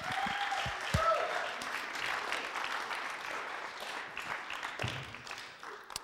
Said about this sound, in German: Und ich möchte ihn noch auf der Bühne willkommen heißen. Geben wir einen herzlichen Applaus an